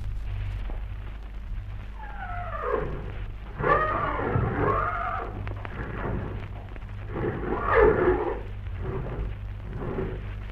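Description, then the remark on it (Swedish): In a stable full of horses, horses whinny in two wavering, high-pitched bouts, with shuffling and snorting between them over a steady low hum. “Tja, det hörs väl att vi finns i ett stall fyllt av hästar.”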